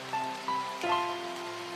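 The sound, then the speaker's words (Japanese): Steady rain falls in a continuous soft hiss, with a sustained musical tone running beneath it and no voices. “雨どうして降るのよ。こんな時に降らないでよ。”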